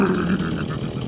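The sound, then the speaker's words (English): A big chainsaw engine runs with a loud, steady, buzzing drone for just over a second, its pitch wavering slightly without any clear rev up or down. No one speaks over it. “He gets out of the car, but he makes sure to have his chainsaw, his new best friend, the big old chainsaw, at the ready.”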